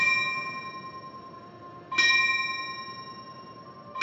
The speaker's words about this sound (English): And the tolling of the fire bell to remember those who made the ultimate sacrifice for their duty.